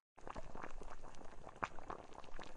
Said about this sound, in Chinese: 哎呀，我炖的汤，哎呀，都怪你，妈妈差点把锅都炖糊了。